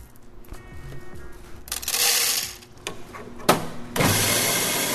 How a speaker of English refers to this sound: It's around 10 in the morning, and this may sound like a traditional Oakland coffee shop, but listen closer. This is not exactly a normal coffee house. This is Cat Town Cafe, the very first cat cafe in America.